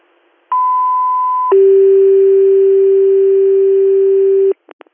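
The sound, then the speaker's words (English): Radio dispatch pager alert tones dropped for ambulance unit ALS 150 for a medical call in the town of Whalen: a steady higher tone for about a second, then a long lower tone for three seconds, loud and clean, followed by two quick short blips. “Received, I'm going to drop your tones for this Whalen job.”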